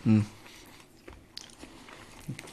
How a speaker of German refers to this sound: Ich noch ein bisschen kauen, ne? Das ist aber lecker. Das ist echt schon gut. Das riecht auch cool.